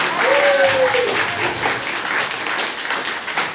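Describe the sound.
A group of children claps steadily for a few seconds, a dense, fairly loud patter of applause with a brief high-pitched voice rising over it near the start.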